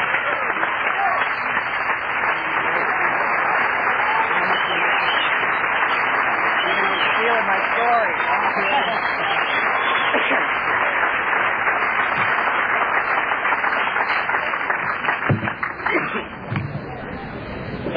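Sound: audience applause and cheering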